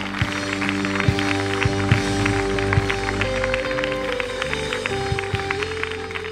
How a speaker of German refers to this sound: Komm und lass uns allen, die das gerade zum ersten Mal gebetet haben, einen Applaus geben.